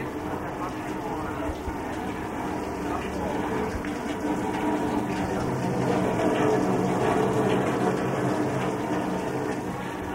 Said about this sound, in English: you heard this sound? That's like a fountain, Fontana di Piaggio. That's, you know, Fontana di Trevi, Fontana di Roma, Fontana di Piaggio. And it is, of course, a Piaggio van, yes.